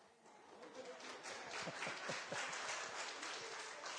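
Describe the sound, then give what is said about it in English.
An audience claps for a singer's song, steadily, the applause dense and sustained with a few sharper individual claps standing out, building slightly and holding at a moderate level throughout. “So you're clapping for my singing, but you know, you're all smiling.”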